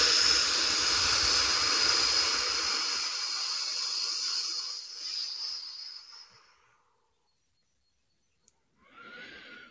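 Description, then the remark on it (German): A long, forceful breath blown out after a deep belly inhale, imitating a dragon breathing fire, with a loud rushing hiss that fades over several seconds, followed by a brief silence and the start of another strong exhale. “Und ich mag dich einladen, tief in den Bauch einzuatmen und richtig Feuer zu speien.”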